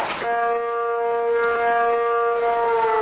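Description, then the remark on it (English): A town's noon whistle siren wails loudly and continuously, its sustained tone holding a single pitch with strong harmonics throughout, no voices heard. “We got an air raid going here. That's the noon whistle.”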